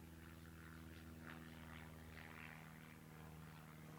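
A propeller airplane drones steadily overhead, a low humming engine tone with a rough buzzing edge that holds at a fairly constant, moderate loudness throughout, with no voices.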